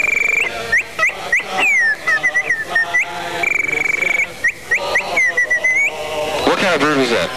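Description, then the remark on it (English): A person whistles imitations of bird calls at a New Year's Eve party on radio station WPGC: rapid chirps, upward-sweeping trills and steady high warbling notes, loud and continuous, with a quick run of swooping whistles toward the end. “Somebody caught up with a really original idea of some bird calls.”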